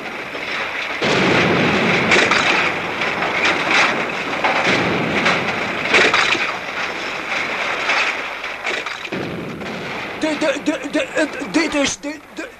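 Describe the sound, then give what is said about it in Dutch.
A loud explosion blows up a hall, the tenth one blown up, erupting into a long, roaring rumble with repeated crashing bursts for several seconds, then fades as voices begin talking. “Dit is nu al de 10e zaal die u in de lucht hebt laten gaan.”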